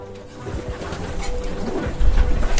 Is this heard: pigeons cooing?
yes